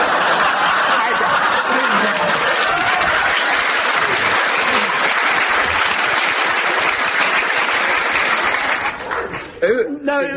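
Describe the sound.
A studio audience breaks into loud, sustained applause that holds steady for several seconds with a few chuckles mixed in, then fades as a voice starts speaking at the end.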